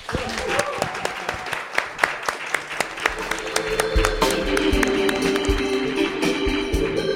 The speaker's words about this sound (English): Thank you. Big round of applause